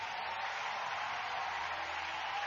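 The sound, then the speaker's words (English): A large group claps continuously in a dense, steady wash of applause that holds even throughout, with no voices standing out. The audience at a church service gives a big hand clap for Jesus. “Let's give Jesus a big hand clap.”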